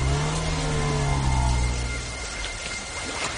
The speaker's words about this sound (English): They get into the car and drive off.